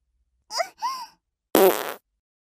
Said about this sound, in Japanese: じゃあ、ちゃんとごめんなさいって言えるまで、私のくっさーいおなら、たっくさん浴びせてあげます。